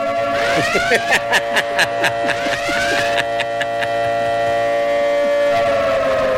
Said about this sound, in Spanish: Señoras y señores, sientan las alarmas. Sientan las alarmas. Prendan las alarmas.